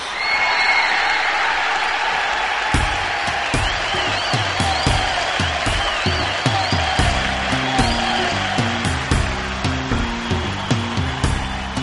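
A large concert audience claps and cheers steadily in a dense, roaring wash as a band is called out to play, while loose drum hits and low instrument notes begin to sound through the applause toward the end.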